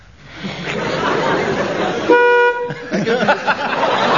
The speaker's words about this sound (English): Give me a chance to introduce my buzzer, with which I shall censor anything which doesn't read my approval.